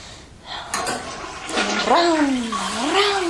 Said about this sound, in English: And since everybody else has flushed their toilet, I'm going to flush mine. Well, not everybody else, but...